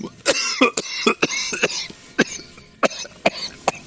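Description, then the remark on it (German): A loud coughing fit after choking: a rapid series of harsh, sharp coughs in irregular bursts, with a few gasping breaths between them and no talking. “Das geht ja in die Husterei jetzt hier.”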